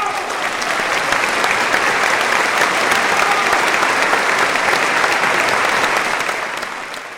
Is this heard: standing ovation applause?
yes